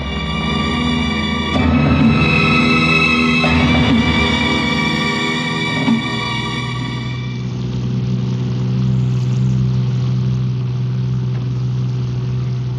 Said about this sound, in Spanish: conduce el auto a prudente velocidad. Se interna por las tortuosas callejuelas del lado oeste de la ciudad.